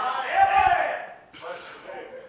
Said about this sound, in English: By the way, she's the only one shouting.